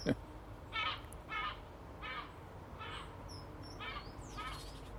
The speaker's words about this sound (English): Seagulls. Loads of them this morning.